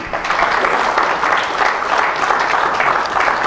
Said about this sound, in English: Let's give a wonderful hand of applause to all those who will be watching by internet today.